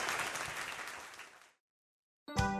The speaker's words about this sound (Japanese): 安田真奈監督に大きな拍手をお送りください。どうもありがとうございます。